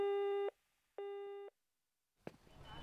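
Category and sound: signal or alarm, answering machine beep tone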